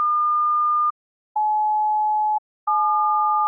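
A steady electronic beep sounds alone, then a lower pure beep, then both pitches together in the telephone keypad dial tone for the digit 7, with peaks at 852 hertz and 1,209 hertz; three sustained tones, each about a second, separated by short silences.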